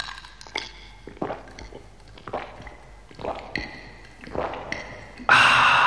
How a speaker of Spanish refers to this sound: Ya tenía que tener aquí mi trago. Eso es, así, así, con mucho hielo, bien fresquito.